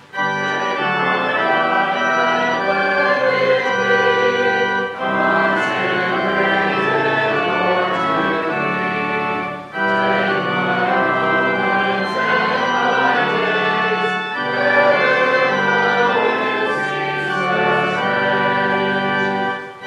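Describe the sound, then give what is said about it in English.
A church bell choir plays the closing hymn of a Sunday worship service, slow ringing chords that shimmer with overtones and sustain steadily, with brief pauses between phrases every few seconds. No one speaks. “As our bell choir plays our closing, we thank you for listening to A Time of Hope.”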